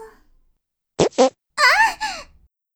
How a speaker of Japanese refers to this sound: あ、思わず少しおならが漏れちゃいました。